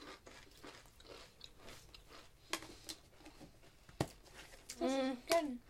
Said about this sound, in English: I like the whole experience. I want to chew them.